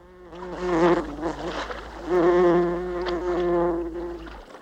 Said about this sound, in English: Albert is stirred by a troublesome fly.